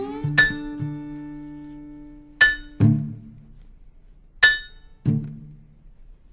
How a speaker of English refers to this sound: On the Virginia road, I became married to the steel-driving hammer. And in the evenings, when I divorced it for a few hours of sleep, sinews seemed torn apart and my muscles quivered involuntarily.